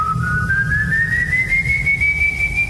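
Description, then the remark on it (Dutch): A single long, clear whistled tone, whistled by a figure in a canoe, that glides slowly upward in pitch, held steadily for about three seconds over a low, rumbling background noise, with no voices. “Hij floot gewoon nog enkele keren, telkens weer diezelfde toon.”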